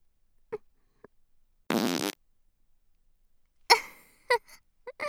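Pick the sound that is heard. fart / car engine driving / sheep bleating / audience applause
fart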